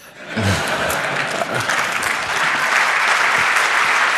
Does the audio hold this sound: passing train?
no